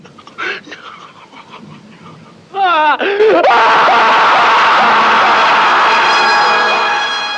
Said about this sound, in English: And lastly, the greatest power scream in history.